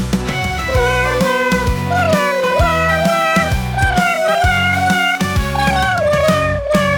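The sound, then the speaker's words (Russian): Repeated cat meows, pitched and gliding up and down, sound in a steady melodic pattern over a loud backing beat with bass and percussion. “И каждый божий день меня бросает в пот, когда он под окном мне свои песенки поет.”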